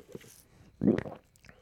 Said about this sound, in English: Whoa, big fat idiot gulp. You know what it's time for? It's time for another big fat idiot gulp. Here we go.